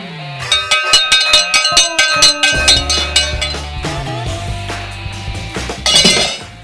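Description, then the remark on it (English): A cowbell being put back into a drawer: a loud, rapid flurry of metallic clanks and ringing clinks, irregular and bright, with a low rumbling drag underneath partway through. “Nobody, no bells, whistles, or sound makers were injured in the replacement of the cowbell back into the drawer.”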